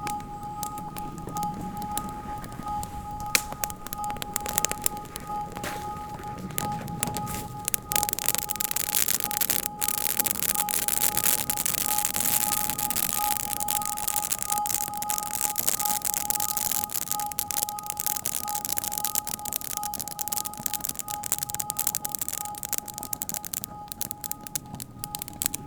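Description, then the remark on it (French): A campfire at a bivouac in a clearing crackles steadily, with dense sharp pops and snaps over a constant hissing roar, fairly loud throughout. A faint steady tone hums underneath, and no one speaks. “Sentez-vous la chaleur, le crépitement.”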